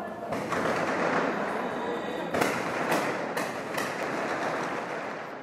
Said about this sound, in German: Auf den Friedhofsmauern sind blutjunge Milizionäre in Stellung gegangen. In rhythmischem Wechsel feuert der Nachwuchs Gewehrsalven in den Himmel über Beirut. Ein Requiem für Panzerfaust und Kalaschnikow.